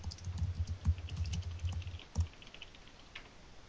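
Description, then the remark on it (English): Rapid, uneven computer keyboard clicks patter for about two seconds, followed by a lone tap and then quiet. The typing is fairly soft, with no voices over it. “Can you guys pick up my keyboard when I type?”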